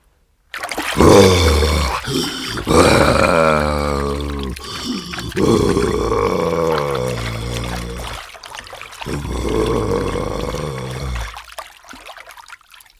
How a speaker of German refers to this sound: Wenn der Kampf im Wasser stattfindet.